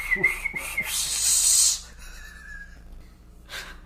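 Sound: person whistling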